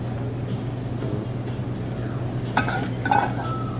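Dishes clink together in a few short bright knocks near the end, over a steady low hum of room noise.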